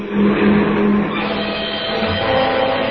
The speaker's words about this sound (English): Here comes a car.